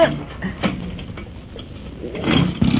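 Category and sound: vehicle, boat engine starting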